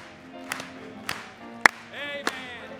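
A few sharp claps land at a steady pace, about one every half second, over sustained musical tones and a soft background hum. The clapping is moderately loud.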